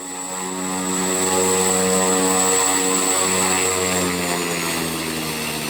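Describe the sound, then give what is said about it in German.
A single-engine turboprop plane with seats for nine passengers and a 675 hp turbine at the front starts its engine, which rises quickly to a loud, steady roar with a high turbine whine and propeller drone, sustained with no voices. “Auch wenn es sich fast genauso laut anhört, wenn Matthias Glass den Motor anwirft”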